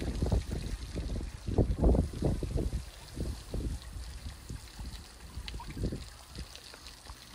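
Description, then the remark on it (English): Pond water sloshes and splashes outdoors in the early morning in irregular bursts, with a soft rumble of wind noise on the microphone throughout and no talking. “So this is our pond water.”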